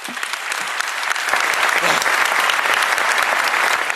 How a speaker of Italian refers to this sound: Tutti in piedi ad applaudire